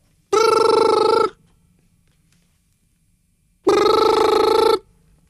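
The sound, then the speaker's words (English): A voice imitates an old-fashioned telephone bell, giving two loud, sustained ringing bursts of about a second each, separated by a few seconds of near silence. “ringing, but no one answers, answers. It just ignores it.”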